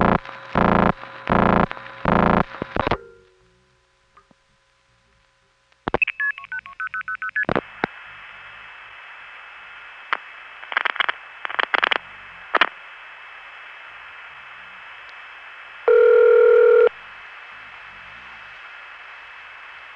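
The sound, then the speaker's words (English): A rapid series of telephone dialing tones, then a quick run of higher signaling beeps, clicks over a hissy line, and a single buzzy ringback tone near the end: a call to a newer NX1 exchange in Butler, Pennsylvania, routed via Hempstead and Pittsburgh, ringing with a modern ringtone. “However, the newer NX1s had modern ringtones, such as Butler, Pennsylvania. Next, a call to Butler via the same Hempstead-Pittsburgh route.”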